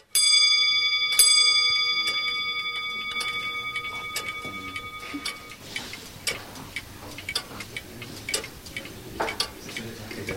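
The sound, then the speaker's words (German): About 30 grandfather and wall clocks, running under test in a clockmaker's workshop, tick together in overlapping rhythms, opening with a couple of resonant chimes that ring out and fade, followed by a busy, steady clatter of ticks. “Im ganzen Atelier stehen etwa 30 Uhren. Alles Stand- oder Wanduhren, es tickt im Takt.”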